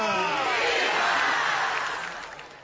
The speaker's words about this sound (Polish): Więc oklaski dla tych wszystkich, którzy chcieliby z nami być tutaj w tej chwili, ale niestety nie mogą. Pozdrawiamy ich. Jesteśmy razem z wami. Oklaski dla młodzieży, która nie mogła tu przyjechać.